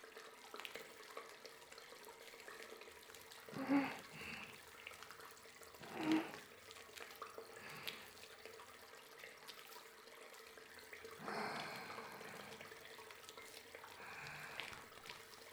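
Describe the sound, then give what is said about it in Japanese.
Soft, wet squishing of fluffy, fine soap foam, handmade from lemongrass, being spread by hand evenly over a person's back and around the neck, gentle, with a few louder swishes and a longer smear near the end over a faint steady hiss. “それではご主人様のお背中をふわふわの泡で包み込ませていただきますね。”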